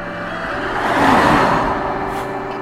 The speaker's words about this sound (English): That was grey. Quite a long car, you know. Maybe scored a superb, I'm not sure.